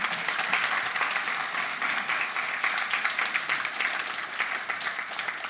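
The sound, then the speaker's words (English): Sustained audience applause fills the room, a dense wash of many hands clapping at steady volume throughout, with no voices standing out. “Give a round of applause.”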